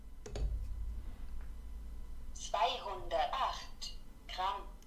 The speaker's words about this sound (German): Ich lege jetzt mal zum Beispiel mein Handy auf diese Waage.